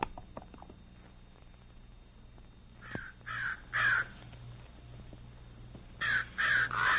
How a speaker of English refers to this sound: What in tarnation's the matter with them crows, Dan?